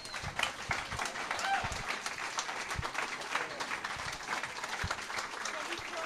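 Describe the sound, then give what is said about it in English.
An audience at an annual weekend gathering applauds itself, many hands clapping in a dense, bright wash of sound that holds fairly even for several seconds, with a few sharper individual claps standing out. “I want you to give yourselves one big round of applause, please.”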